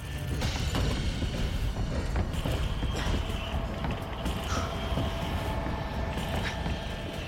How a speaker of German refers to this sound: und er ist in der Bibliothek oder einfach ein Stockwerk höher. Dann hören wir seine Fußstapfen über uns herum.